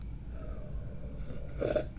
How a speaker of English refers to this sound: Ooh, mouth's getting a little bit of dry, so I have to take a sip of my delicious, yummy tea.